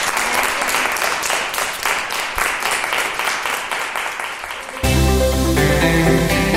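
A crowd applauds loudly with dense, steady clapping for about five seconds as a farewell to a children's choir's teachers, then music cuts in abruptly and takes over.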